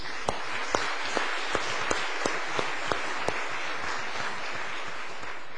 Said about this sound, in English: Musicians and bagpipers, a round of applause is due.